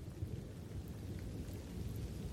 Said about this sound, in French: Pour son premier jour, Barack arrive en retard. Dehors, il pleut à verse. Il s'excuse, c'est à cause de la pluie.